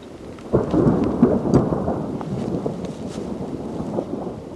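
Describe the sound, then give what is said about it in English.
Deep, rolling thunder rumbles from an approaching storm over a remote tundra valley with a river and limestone peaks, swelling after a quiet start and lingering in a broad, sustained roar with faint rain-like patter beneath it. “As a storm approaches, we set up our lightweight tents and pick our way across the spongy tundra toward Last Lake”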